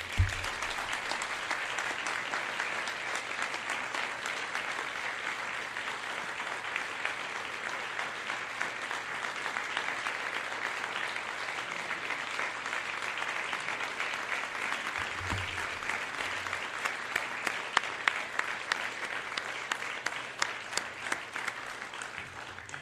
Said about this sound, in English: And I think he deserves a special round of applause.